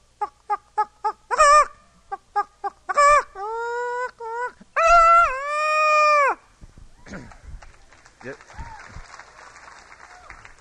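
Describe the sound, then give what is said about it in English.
A man vocally imitates a chicken, a quick run of sharp clucks rising into drawn-out squawking cackles, loud. Scattered audience applause and noise follow. “I'll imitate the birds and the fowl to start with. Chickens.”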